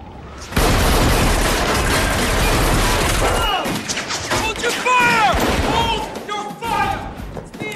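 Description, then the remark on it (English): A loud burst of rapid gunfire in a stairwell, fired down the stairs into a lift and upward by agents below, fills the first few seconds, then thins out as raised, shouting voices take over, with a few scattered shots between them. “I've got gunfire in the stairwell!”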